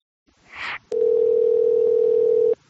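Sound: telephone dial tone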